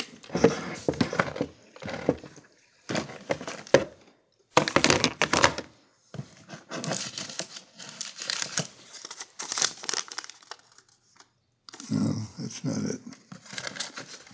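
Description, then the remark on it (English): Someone rummages through a drawer looking for a cut-out newspaper column by Ernie Pyle: papers crinkle and rustle in irregular bursts, with dull wooden thunks and knocks as items are shuffled and moved about over several seconds. “In this drawer, I know that. Is this it? Sloppy drawer.”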